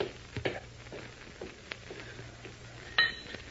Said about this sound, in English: Phew, that was close. I didn't know any other French. That is why I dropped the glass.